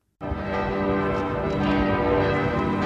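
church bells ringing

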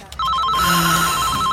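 telephone bell ringing

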